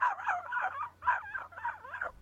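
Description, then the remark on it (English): A dog barks somewhere in the distance, a quick run of four or so rough, yappy barks in close succession, faint over a low background hum. “Listen, thank you, Faraway Dog, for your unsolicited barkamonial.”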